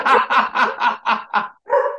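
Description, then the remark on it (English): A rapid, steady run of about seven loud barks from two Australian shepherd dogs, Gavin and Murphy, evenly spaced with a brief pause before the last one, and no talking over them. “They're two Australian shepherds.”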